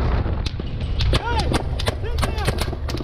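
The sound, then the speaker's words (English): Sharp, loud bursts of gunfire crack out in an irregular string over a constant low rumble, with people shouting between shots, in helmet-cam footage filmed by a soldier behind a mounted gun on an army truck on a dark highway in a Mexican border town. “And just a quick warning, you're about to hear gunfire.”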